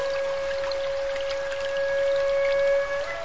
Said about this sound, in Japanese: この川のほとりからは毎夜毎夜笛の音が流れてきます。